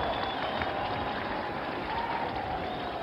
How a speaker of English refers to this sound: Cries of greeting and good wishes from the crowd.